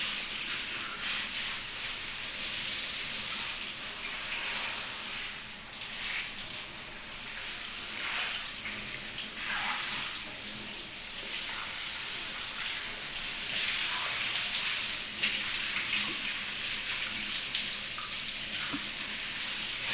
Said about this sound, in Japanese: さて、では今度こそお体洗わせていただきますね。シャワーを使っていきます。